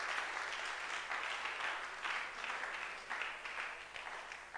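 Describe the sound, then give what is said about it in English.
A crowd of people claps for the Lord in a dense, sustained burst of applause, steady and fairly loud, rising and falling slightly in waves for a few seconds with no voices standing out. “Clap for the Lord.”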